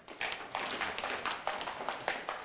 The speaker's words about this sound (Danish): Og så må I alle sammen gerne lige trampe rigtig hårdt i gulvet. Værsgo.